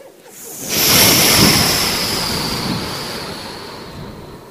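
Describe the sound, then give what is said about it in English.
A single ocean wave rushes in and breaks on the shore, a loud, hissing surge of foamy water that swells quickly and then slowly fades as it spreads up the sand. “The next wave came in.”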